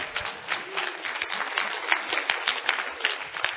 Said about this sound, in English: Give him a hand clap.